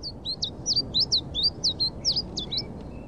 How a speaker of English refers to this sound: His feathered friend, a Siberian chiffchaff, is about 5,000 miles away from its home in Siberia.